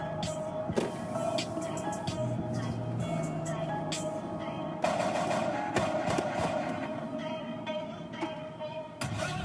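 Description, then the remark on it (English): Sharp, loud gunshot effects in a song crack repeatedly in irregular bursts over a dense, steady musical backing, with a few especially strong blasts standing out from the mix. “And now here's some gunshot noises.”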